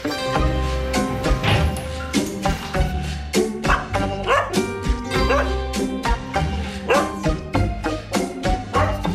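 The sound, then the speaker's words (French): Many dogs bark and yip continuously at Woofy, a dog daycare: a dense overlapping chorus of loud, echoing barks with occasional higher yelps. “vous êtes la directrice de Woofy, de cette garderie pour chiens.”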